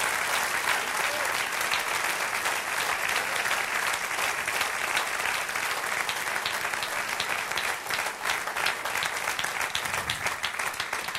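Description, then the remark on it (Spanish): Steady, sustained applause from an audience fills the whole stretch, a dense crackle of many hands clapping at an even, loud level with no pause and no one speaking over it. “Dame un aplauso, Señor.”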